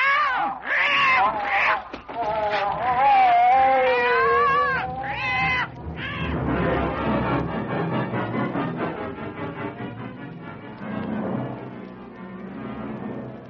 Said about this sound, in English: Quiet. Quiet, your mewing might waken him.